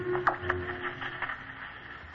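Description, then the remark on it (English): Crackling radio static hisses steadily from a radio set with a faint whining tone and occasional sharp clicks and pops, like a dial being turned between stations, none of which are on air. No voices are heard. “Can hear static, but none of the stations are on now.”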